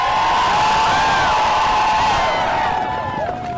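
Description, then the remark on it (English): A large crowd of fans cheers and whoops loudly and continuously for a dog team at a race, with many overlapping voices rising in excited shouts, sustained throughout before easing slightly at the end. “But I also want to say a quick thank you to all the fans that come out and cheer us on.”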